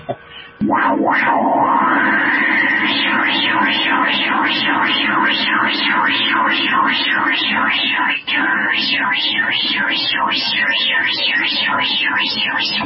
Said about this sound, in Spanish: Y eso se hace con ruido blanco. Entonces, por ejemplo, voy a hacer el sonido de Goku cuando está en su etapa de transformación.